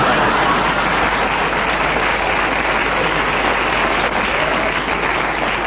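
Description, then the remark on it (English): A studio audience breaks into sustained applause, a dense, steady wash of clapping that holds at an even loudness throughout, with no voices standing out. “I think the audience applause endorses the correctness of your challenge”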